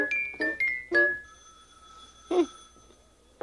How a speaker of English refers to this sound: First the door and now the telephone.